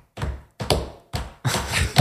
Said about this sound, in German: Man hört nur die Leute trampeln, aber man hört keine Musik und jeder, deswegen habe ich es auch so unrhythmisch gemacht, jeder trampelt in seinem eigenen Takt, weil die einen hören so schnelle Musik